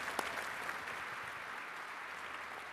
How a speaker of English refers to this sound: There we go. Round of applause.